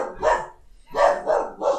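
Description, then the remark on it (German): A dog barks four times, one sharp bark followed by a pause and then three quick barks in a row, loud and with no talking. “Heute mit Hundeeinlage.”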